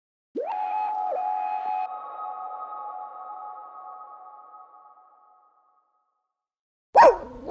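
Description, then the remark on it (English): A long, steady whining tone slowly fades into silence, then a single sharp, loud dog bark pops up at the very end. No one speaks. “You hear that? Your dog knows.”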